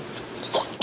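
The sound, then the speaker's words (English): A quick sneeze: a short breathy intake followed by a sharp, bright burst of air, with no talking around it. “Bless you. God bless you.”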